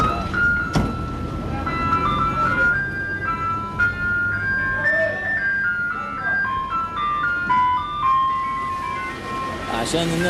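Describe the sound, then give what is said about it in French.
A tinkling electronic jingle, the signature tune of a water delivery truck driving the streets of the Gaza Strip, plays a simple repeating melody of bright, high notes over a steady low engine rumble and street noise. “Il parcourt les rues de ce territoire en faisant résonner une musique comme une signature.”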